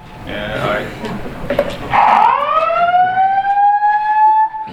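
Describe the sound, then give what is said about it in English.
A building fire alarm, sounding for a fire emergency reported in the building, starts up partway through, a loud continuous electronic tone that swoops upward and then holds steady, cutting in over faint background voices. “Is this an alarm or that's right. It's a fire alarm back here.”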